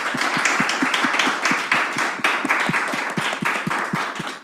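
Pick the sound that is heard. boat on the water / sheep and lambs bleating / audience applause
audience applause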